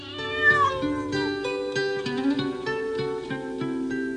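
A folk-pop song plays at a steady, moderate level, with sustained chords that change every half second or so over a clear bass line. No one talks over it.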